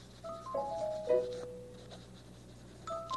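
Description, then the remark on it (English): Soft scratching of a pencil signing on the dotted line in a book in a few quick strokes, over gentle background music with no one speaking. “All righty, and if you'll just sign for that today, there's my book, here's the pencil, and just sign right on the dotted line.”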